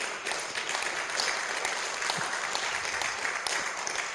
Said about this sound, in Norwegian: La oss gi han en applaus.